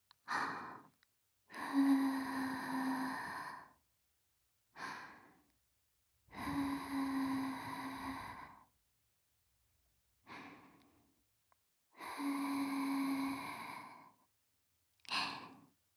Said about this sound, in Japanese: 弱いお耳を私の吐息でくすぐられていっぱい感じちゃってくださいね